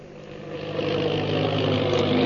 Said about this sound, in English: The plane bearing the Purple Triangle insignia roars through the sky.